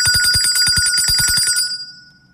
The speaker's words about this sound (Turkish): İşte o an, işte zil sesi.